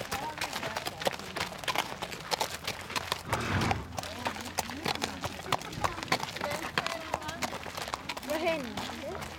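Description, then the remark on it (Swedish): A horse gives a short, breathy snort partway through, over the steady clip-clop of hooves on a terrain-course trail with uphill and downhill slopes, with outdoor rustling and faint voices. “En häst som frustar lite.”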